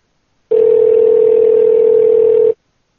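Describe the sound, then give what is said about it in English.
A loud, steady telephone dial tone hums continuously for about two seconds as someone gets ready to call back, then cuts off abruptly, with no talking or other sounds around it. “We're going to call back.”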